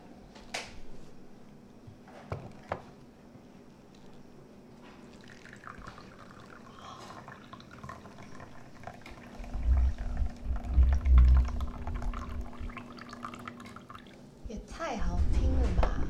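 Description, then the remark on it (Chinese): Liquid pours a short distance into water in a container as a steady, low splashing stream, growing louder partway through and swelling again at the end, with people talking faintly alongside. “因为短，它的距离很短，它倒下去的距离很短，那个音的质地，声音的质地还是会不太一样。”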